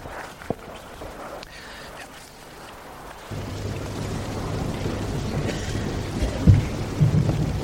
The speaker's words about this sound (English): And there came peals of thunder, rumblings, flashes of lightning, and an earthquake.